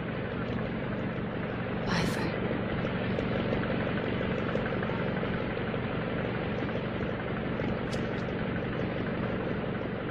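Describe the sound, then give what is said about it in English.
A steady, loud airplane engine drones throughout as the plane starts to take off, a constant low rumble and whine with no pauses, with a couple of brief hissing bursts. “Rachel gets on the plane.”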